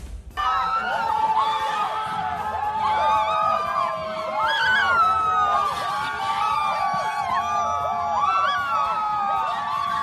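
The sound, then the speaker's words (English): Loud, continuous screaming and shrieking from a large crowd of protesters outside the Supreme Court of the United States, many voices overlapping in high wavering wails and yells that rise and fall without pause, intense throughout. “That screaming that you are hearing now is the sound of protesters outside of the Supreme Court of the United States of America.”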